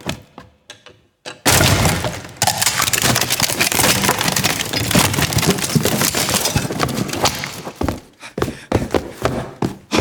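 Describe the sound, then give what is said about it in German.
A door is violently forced open: after a few faint knocks, a loud sustained burst of splintering wood and crashing erupts for several seconds, then tapers into scattered cracks and thuds. “Brechen Sie die Tür auf!”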